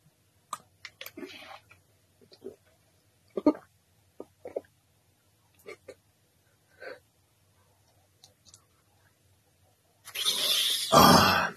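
Someone splutters and coughs in short, sharp bursts after choking on water, with gasping, grunting breaths between fits, ending in a loud, rough burst of breathy noise.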